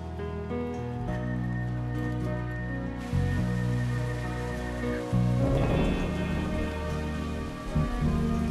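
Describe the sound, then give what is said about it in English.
Heavy, torrential rain pours down steadily, its hiss thickening partway through, mixed beneath loud, sustained dramatic music with deep low tones. No one speaks. “In torrential rain, without a coat”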